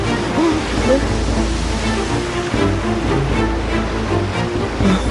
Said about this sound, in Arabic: الأمواج عالية.